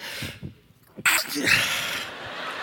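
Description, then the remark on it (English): A single loud sneeze from a man reading Bible verses bursts out abruptly after a brief pause, trailing into a breathy, hissy rush of air and noisy rustling. Faint murmuring precedes it. “And the sneeze came.”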